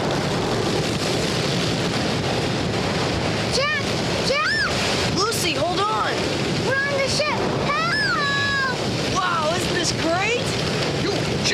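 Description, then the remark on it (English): A loud, unbroken roar of storm waves and wind surges around the ship carrying Jonah away from Nineveh, with crashing water throughout. Partway in, voices begin shouting over the din in rising, wavering cries. “Everything was sailing along smoothly, and Jonah thought he could get away from God. But then this storm came up.”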